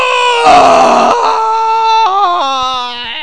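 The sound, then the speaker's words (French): A man lets out a loud, drawn-out scream of pain after burning his hands taking a hot gratin out of the oven, lasting about three seconds, his strained voice wavering and stepping down in pitch, with no other sounds around it. “C'est vrai qu'un si beau gratin mérite autant de cris.”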